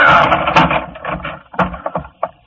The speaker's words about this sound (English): I hit two wrong doors before I found the one I wanted, and I had to spring the lock.